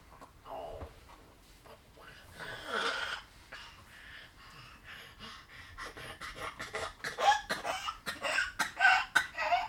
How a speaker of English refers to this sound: Coughing. Oh dear. Oh dear. Have a little cough.